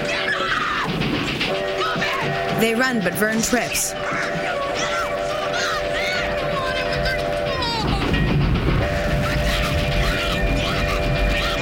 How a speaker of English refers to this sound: Chris and Teddy turn as the train appears on the curve behind them all.